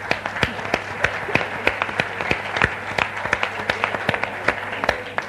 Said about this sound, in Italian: siete bellissime e questo applauso è per voi.